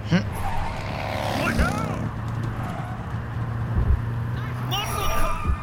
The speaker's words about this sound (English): Nice muscle car.